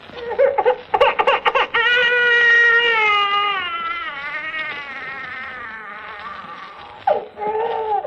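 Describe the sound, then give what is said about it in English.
A baby bawls on an old phonograph record: a few choppy sobs, then one long, wavering wail that trails off before a last catch of crying. Loud, with no talking. “Or simply by playing a phonograph record of a bawling infant.”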